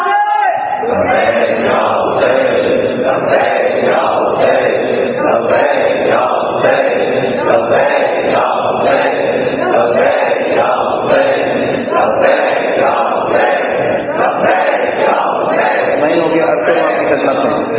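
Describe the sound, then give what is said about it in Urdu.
A large crowd chants slogans in unison, loud, with a steady repeating rhythm of shouted phrases roughly once a second that continues throughout. “یہ جو نعرے آپ لگائیں گے، جو نعرے آپ لگا رہے ہیں، جس انداز میں بھی آپ لگا رہے ہیں، ایک ایک چیز دشمن نوٹ کرتا ہے، ایک ایک چیز.”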